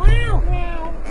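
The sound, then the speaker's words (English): A person's followers meow together at once, their overlapping, rising and falling mews forming a short, loud chorus of human cat imitations. “Thought it'd be more interesting if I asked my own to meow at like the same time.”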